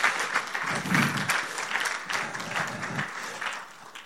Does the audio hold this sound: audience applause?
yes